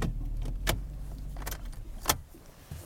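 A car engine idles with a low, steady rumble while a few sharp clicks and jingles ring out, like keys and controls being handled as the vehicle parks and settles to a stop, in the dark and below freezing, about 200 yards from the lek.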